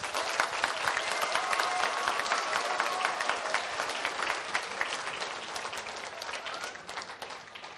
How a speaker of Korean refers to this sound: 감사한 마음으로 늘 기도하며 준비한 분들께 뜨거운 박수와 격려 부탁드리겠습니다.